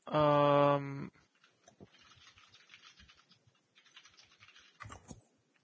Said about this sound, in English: Sorry, I'm just typing.